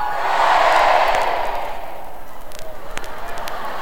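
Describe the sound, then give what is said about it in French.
A crowd roars back a loud shouted reply to a speaker's question, "Are we for the liberation of women?" The reply swells for about a second, then fades into a thinner wash of scattered voices and rhythmic clapping. “M'excuse, mais là, vous étiez supposé crier non.”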